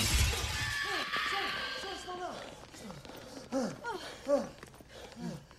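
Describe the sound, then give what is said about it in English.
A loud crash as a giant flying bug slams into a guard's entrance, with shattering and a ringing, clattering tail, followed by several people calling out over the fading debris. “They all run indoors as an airbug crashes into the guard's entrance.”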